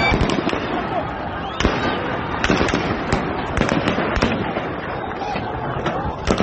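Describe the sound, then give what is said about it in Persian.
Repeated sharp gunshots crack out in quick, irregular bursts over a dense, noisy background of shouting voices, some shots louder, others fainter, as security forces fire toward protesters in Shiraz, Iran, while fleeing. “گاهی مثل این تصاویر در شیراز، ماموران امنیتی هنگام فرار به سمت معترضان شلیک کردند.”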